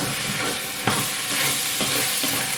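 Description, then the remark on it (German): Food being stirred in a cooking pot: a steady, loud sizzling hiss with a few brief scraping strokes of the spoon cutting through it. No one speaks. “So, und Leute, vergesst nicht zwischendurch immer noch wieder zu rühren, ne?”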